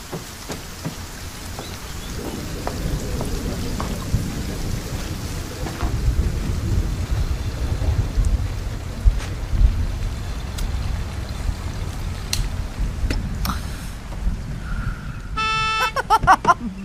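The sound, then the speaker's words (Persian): Steady rain pours down with a continuous hiss, joined by low rumbles of thunder, and a car horn toots briefly near the end. “بارون میاد، کتتو بردارم.”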